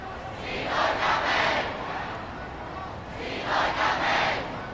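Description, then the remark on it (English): A large protest crowd chants in unison on the main roads of central Hong Kong, two loud rhythmic bursts of shouting rising and falling over a steady background roar of voices. “Large crowds filled out the main roads in central Hong Kong today.”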